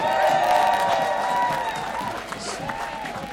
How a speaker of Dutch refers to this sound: Mag ik nog even een heel hard applaus voor ….